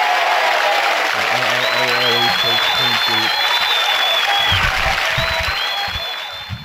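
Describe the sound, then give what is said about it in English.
A crowd at a show in Indianapolis applauds loudly and steadily for several seconds, with scattered cheers and whistles on top and some voices mixed in, before the clapping starts to taper off at the end. “Big round of applause for”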